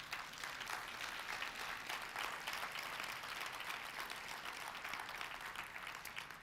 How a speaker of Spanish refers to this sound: Si tú eres uno de esos, solamente si tú eres uno de esos, ¿por qué no le das un aplauso al Señor?